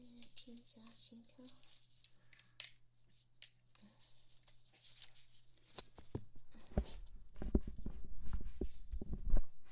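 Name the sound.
heartbeat heard through stethoscope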